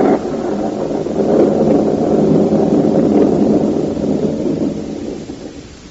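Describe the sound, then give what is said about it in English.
Thunder rolls in a long, heavy rumble that swells and holds steady for several seconds before slowly fading, loud with no voices. “The thunder sounds, but within the Goldberg living room is the deepest silence.”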